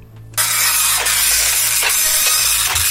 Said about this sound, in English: It's quite a slow printer as well.